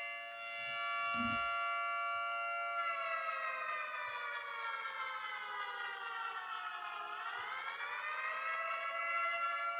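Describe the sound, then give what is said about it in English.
A loud, continuous alarm siren sound effect, used on a program as its "fruit bat alarm", wails for about ten seconds, its layered harmonic tone holding steady before sagging in pitch and climbing back up near the end, with no voices. “That's the fruit bat alarm.”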